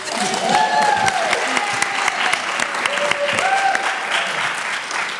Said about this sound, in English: Well, you're all very welcome back to the Women's Podcast, coming to you from the Rotunda Hospital in the heart of Dublin City. Are you all going to give a round of applause or not?